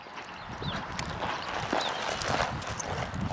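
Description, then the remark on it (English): A dark brown mustang mare with a long black tail clops her hooves in an uneven, unhurried rhythm as a man trains her to step forward and back, with a steady outdoor background and a couple of faint chirps overhead. “He's telling her to take steps forward and take steps back, teaching her to walk in the direction he wants her to go,”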